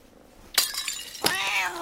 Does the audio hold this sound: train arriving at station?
no